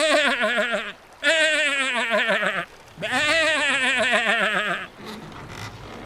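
A sheep bleats three times, each call loud and wavering with a shaky tremble, separated by short pauses, followed by a quieter rustle of background noise.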